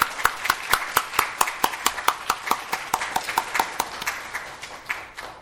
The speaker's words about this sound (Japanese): 先生、拍手を持って先生をお迎えいたしましょう。先生よろしくお願いいたします。